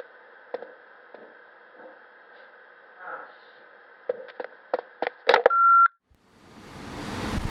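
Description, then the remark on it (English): Over a humming phone line with scattered clicks and handling knocks, a short, sharp answering machine beep sounds clearly, then gives way to rising hiss. “Leave your message after the beep.”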